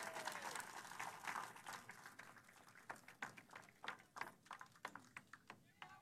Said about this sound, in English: Sounds like the person in the crowd who may have suffered some sort of heat-related incident appears to be taken care of. There's applause from the crowd.